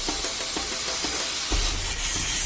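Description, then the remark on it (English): A steady, loud roaring hiss of a gas axe cutting torch slicing through metal barrels, with scattered pops and crackles and a low rumble underneath, with no talking. “The sharpest tool in the box is the gas axe and it makes easy work of the barrels, so the cats aren't foiled yet.”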